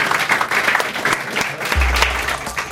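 An audience applauding steadily after a lightning round, a dense wash of many hands clapping at once, sustained, with a low hum entering near the end.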